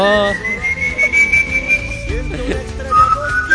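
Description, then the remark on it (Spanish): Eerie, ghostly whistling of el Silbón: one long, thin tone held steadily and drifting slightly in pitch over a murky, rumbling background, then a shorter, lower whistle rising near the end. “Que no te agarre el silbón, que no te agarre el silbón”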